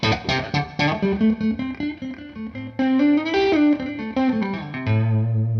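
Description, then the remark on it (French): An electric guitar with its string action set fairly high from the factory plays quick, dynamic phrases of single notes and chords, ringing out with a reverb wash. It is fairly loud, with no voices. “Je vais dégager un petit peu ma reverb pour écouter ce que ça donne avec un son clean assez pur.”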